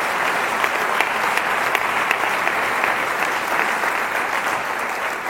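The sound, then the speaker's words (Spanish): An audience applauds Jesus steadily, many hands clapping in a dense, even roar that holds at the same loudness for several seconds with no voices over it. “Te invito a que le demos un aplauso a Jesús, que es un Dios cercano, que es un Dios que está cerca de nosotros.”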